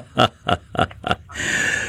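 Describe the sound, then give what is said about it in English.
An owl calls in four quick, rhythmic, raspy barks, followed by a steady, harsh screech that holds at a high pitch until the end. No one speaks. “Whoever it was the owl that nobody wanted to chat with.”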